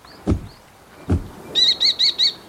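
A falcon call: four shrill, evenly spaced cries in quick succession, loud, preceded by two dull low thumps like wingbeats or knocks. No one speaks.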